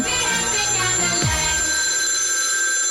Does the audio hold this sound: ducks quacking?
no